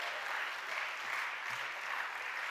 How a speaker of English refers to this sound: Clap your hands and shout yes to the Lord.